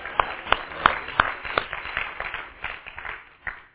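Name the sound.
audience clapping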